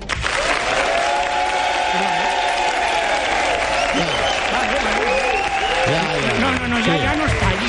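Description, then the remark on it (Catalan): A crowd bursts into sustained, loud applause, clapping steadily for several seconds with a few voices calling out over it near the end, as the audience votes by applause on whether a presenter should stay on the programme. “La gent que vulgui que em quedi, que aplaudeixi ara.”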